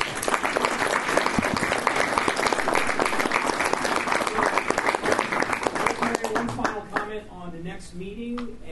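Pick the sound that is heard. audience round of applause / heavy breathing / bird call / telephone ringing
audience round of applause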